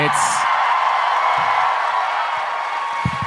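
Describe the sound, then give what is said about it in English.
An audience at PodCon cheers and applauds in a steady, dense roar lasting a few seconds, with a high whoop rising above the crowd near the start. “This is like, you know, fishing for applause.”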